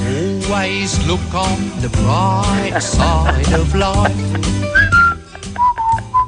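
A cheerful whistled theme-tune jingle over a full band backing with steady bass and rhythm, the clear whistled melody standing out loudly, especially in its closing sustained notes.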